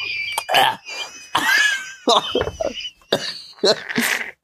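Someone coughs and splutters in a series of harsh, irregular bursts, gasping between them after a drink went down the wrong pipe, with a faint high whistle-like tone running underneath.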